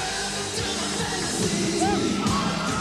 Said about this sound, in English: Tonight, more than 1,000 screaming women did live out their fantasy at Memorial Auditorium.